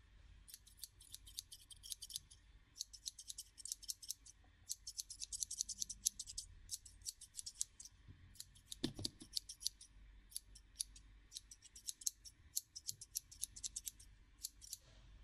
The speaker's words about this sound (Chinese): 你老实一点，信不信一剪刀下去你耳朵都没了。